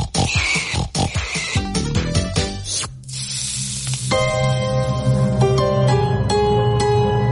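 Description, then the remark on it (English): Racing pigs oink and grunt in a quick, busy flurry for a few seconds as they roll around in the mud, then a hissing spray-like rush takes over, followed by steady, sustained ringing tones. “And they're just rolling around in the mud now.”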